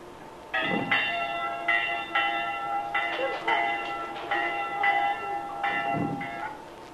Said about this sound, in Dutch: De kerkklok wordt geluid en dan komen de kinderen, want voor de kerkdienst wordt er zondagsschool gehouden.